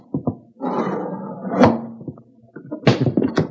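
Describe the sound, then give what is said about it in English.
A house window is forced open to get inside because the door is locked, with a long grinding scrape, a sharp knock partway through, then a few quick rattling thumps and scrapes as it gives way. Nobody speaks. “We get in somehow with as little fuss as possible. Well, we will just try this window.”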